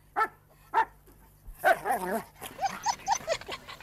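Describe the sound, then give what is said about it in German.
A female dog gives two short, sharp barks, then breaks into a run of high, wavering whimpers and yelps, clear with no one talking. “Sie war keine Frau, sondern ein Hundeweibchen.”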